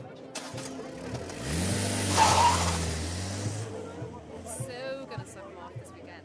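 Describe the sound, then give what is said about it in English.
A car engine revs hard and roars as the vehicle pulls away, swelling loudly for a couple of seconds before fading, with muffled voices talking around it. “Is he stealing that car? Jayet, quick, get in.”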